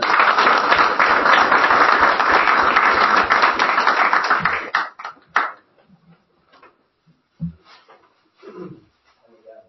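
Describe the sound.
A crowd applauds loudly and steadily for about five seconds, then the clapping breaks off into a few scattered claps and quiet murmuring voices.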